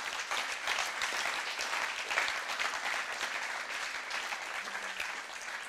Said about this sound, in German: Und danke vielmals an all die Teamleiter, die das ermöglichen und uns so gut supportet. Ein riesen Applaus für euch.